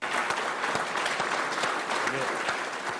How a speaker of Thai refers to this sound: เสียงปรบมือและเสียงเชียร์ของนักวิทยาศาสตร์ที่ Indian Space Research Organization เมื่อเห็นยานอวกาศของอินเดียเข้าวงโคจรของดาวอังคารได้สำเร็จเมื่อเช้าวันพุธนะคะ